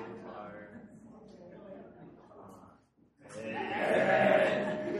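baby goats bleating

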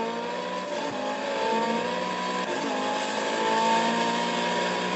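race car engine revving

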